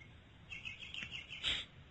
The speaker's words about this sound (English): I'm grateful for the birds. I'm sure you can hear them. There's birds in the background.